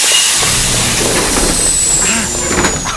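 Subway train doors hiss and slide shut with a few mechanical clunks, over a steady loud rumble of the train and a thin high whine.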